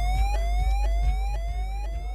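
A DJ siren effect: a loud electronic tone sweeps upward again and again in quick repeating rises, riding over a pounding bass beat, with no one talking.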